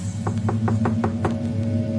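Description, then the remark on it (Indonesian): Six quick, evenly spaced knocks rap on a toilet door over a steady low hum, then stop, leaving just the droning background. No one speaks. “terdengar seperti ada yang mengetuk pintu toilet ini.”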